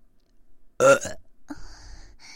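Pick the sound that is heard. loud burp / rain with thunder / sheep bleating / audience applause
loud burp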